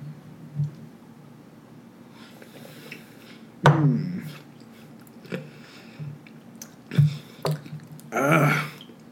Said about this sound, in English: Time flies by when you're drinking whiskey. So we're going to take our sip.